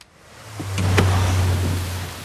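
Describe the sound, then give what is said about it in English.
Heavy rain pours down in a steady, dense hiss as people get out of a 4x4, joined by a low constant rumble like an idling engine and a couple of brief sharp knocks partway through. “Later, Joe and Artie get out of the 4x4 in the pouring rain.”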